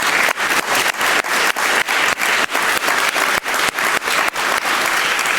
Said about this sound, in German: Wir haben über 1300 Trollstunden und wirklich vielen Dank an alle Trolle, also die Safer-Trolle, wirklich alle, weil ihr macht diese Veranstaltung erst möglich, ohne euch wäre das unmöglich. Applaus.